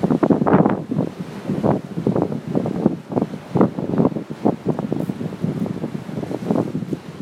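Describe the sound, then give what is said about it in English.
Ocean waves breaking in the surf on a late March day as surfers paddle out lying on their boards, a steady wash of churning water with repeated surges, with gusty wind buffeting the microphone and no voices. “Slowly, patiently, but confidently, trolling out over the subterranean sand and the waves that are taking them. Let's just listen to the action that they are encountering.”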